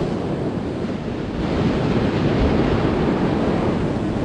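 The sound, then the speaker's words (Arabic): Strong, steady wind roars over the sea, with surf churning and the microphone buffeted by gusts. The noise stays loud and continuous throughout, with no voices. “أصبح الطقس عاصفا يهدد طائرات الاستكشاف ويجبرنا على البحث عن ملجأ ومرفأ آمن. أولا فقدنا الجهاز، والآن تعصف الرياح.”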